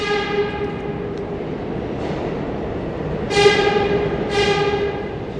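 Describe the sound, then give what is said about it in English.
A subway train rumbles through the busy 34th Street and 8th Avenue subway station with a steady, droning metallic whine over dense low noise, and two louder tonal blasts swell near the end, like a horn or squealing brakes. “Okay, here we are at 34th Street and 8th Avenue subway station.”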